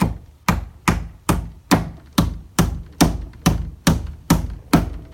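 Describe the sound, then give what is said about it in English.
A hammer strikes a nail about a dozen times in a steady, even rhythm, getting the nail started, each blow a sharp, loud knock with a brief ringing decay. No one speaks. “Well, first I like to get the nail started a little bit.”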